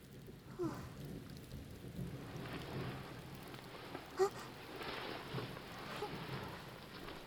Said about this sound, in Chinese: 啊，又下雨了，又下雨了。最讨厌下雨天了，到处都湿漉漉的，泥水很容易把毛发弄脏了。